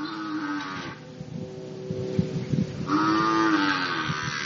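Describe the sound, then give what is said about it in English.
Cows moo loudly, two long drawn-out calls separated by a brief lull, with low shuffling and background farm noise in between. No one speaks. “Would you like to come for a walk over there amongst the cows?”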